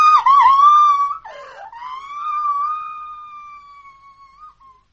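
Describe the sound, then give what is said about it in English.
A girl screams shrilly and at length, one sustained high wail that briefly breaks and wavers, then carries on steadily before trailing off, loud with no talking. “For God's sake, can't someone stop that girl screaming?”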